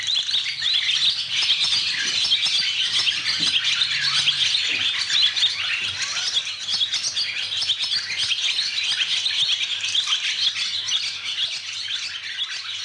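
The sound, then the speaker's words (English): A dense, continuous chorus of over 40 swallows, about 20 pairs, twittering in a stable block, with busy high-pitched chirps overlapping steadily for the whole stretch, and a horse's snort briefly underneath. “Just absolutely amazes me, and fills the stable block up, because I'm about 20 pairs of swallows, that's over 40 at the moment, and they make this fantastic noise.”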